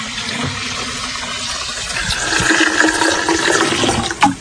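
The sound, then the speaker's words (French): Fermented plant liquid is poured and filtered in a steady gush of splashing liquid that grows fuller and louder midway, then ends with a brief final splash. No voices are heard. “Il faut filtrer très, très vite. Et ensuite, vous mettez 5-10% dans un arrosoir.”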